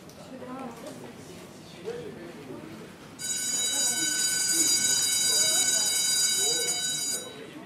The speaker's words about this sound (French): Les sonneries entre Jeanne et Blaise, le lycée de garçons tout proche, étaient décalées de 10 minutes.